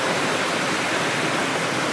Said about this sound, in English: where the source of primary water in the north of Israel, just under the Hermon Mountain, just at the beginning of the Banias River, where primary water comes up.